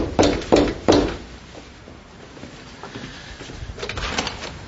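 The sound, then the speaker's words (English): A door opens as a big Russian man arrives at it: three sharp, evenly spaced thuds, then a lull and a softer scraping rattle of the door moving, with no talking. “Within an hour, some big Russian named Ivan was at my door.”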